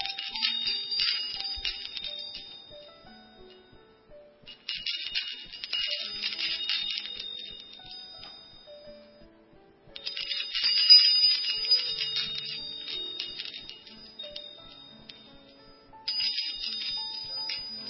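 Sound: wind chime ringing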